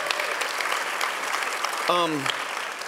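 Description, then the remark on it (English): A church audience breaks into steady applause, with one voice letting out a brief cheer partway through the clapping. The crowd sounds fairly loud. “So can we cheer for that?”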